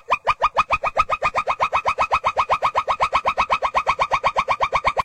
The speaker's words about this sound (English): That sounds like a bird, too. Bird? Yeah, I feel like that's a bird, like a ostrich. I'm sorry, that is a pileated gibbon. Come on now, what's a gibbon? Monkey.